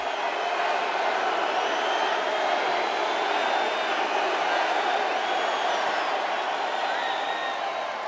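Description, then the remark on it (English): A large crowd applauds Trump without pause, a dense, steady roar of clapping filling the whole stretch, with cheers, whoops and a few high whistles rising through it. “The applause goes on and on.”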